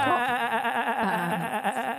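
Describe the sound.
A person imitates a sheep's bleat with one sustained, wavering nasal cry lasting about two seconds, fairly loud, with no other talking.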